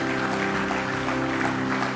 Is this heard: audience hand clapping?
yes